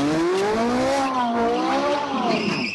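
A Ferrari special edition sports car spins donuts atop an ancient city wall in Nanjing, China, during a publicity stunt, tires squealing loudly, sustained wavering high-pitched screech over a roaring engine that rises and falls continuously without pause.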